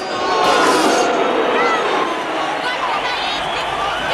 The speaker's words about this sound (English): Right now, one of the fighters starting to make his way through this crowd and toward the ring. Listen to this crowd. We knew he wouldn't be popular, but this boy was on pure hatred.